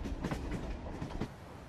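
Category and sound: vehicle, train running on rails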